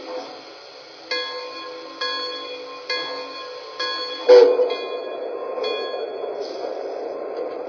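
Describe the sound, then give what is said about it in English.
The Super Chief, passenger train number 17 to Chicago, on track one at the San Bernardino station platform, its bell clanging in a steady, evenly spaced rhythm with ringing tones, then a louder clank and a rising rumble of rolling equipment. “Chicago on track one, train number 17, the Super Chief.”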